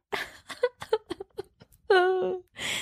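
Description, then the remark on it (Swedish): A voice mimics crying: a run of short, choppy sobbing gasps, then a drawn-out wailing moan that slides downward in pitch, ending with a breathy, noisy exhale. “Gråt. Du har inte gjort det så.”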